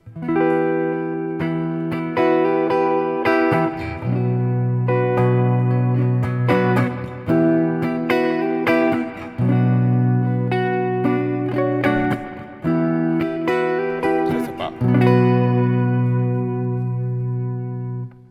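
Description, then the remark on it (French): Clean electric guitar chords ring out through a 40-watt amp with its built-in adjustable reverb, giving a lush reverb tail, strummed in sustained phrases for about eighteen seconds, with a brief spoken comment barely noticeable near the end. “Toc, une reverb qu'on peut doser.”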